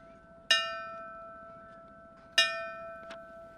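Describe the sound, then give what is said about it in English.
A ceremonial bell tolls slowly at a Black History Month observance with a wreath laying, at a monument in front of the Mason Square Fire Station in Springfield honoring firefighter Lenny Corbin: two clear strikes about two seconds apart, each with a long shimmering sustain, followed by a fainter knock; no one speaks. “There was a wreath laying and bell tolling.”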